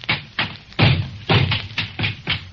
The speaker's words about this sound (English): I'm going to take the same gun and pound it on the floor. And now I'm going to hammer it and knock it. It's facing me, you notice.